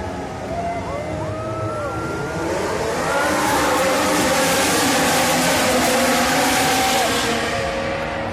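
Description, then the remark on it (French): Loud, dense roar of Formula 1 car engines pulling away together at the start of a 2018 Grand Prix, their high whines rising and dropping as they shift through gears, swelling fuller after a few seconds and holding steady. “Alors, sans plus tarder, mesdames et messieurs, démarrez vos moteurs et c'est un départ!”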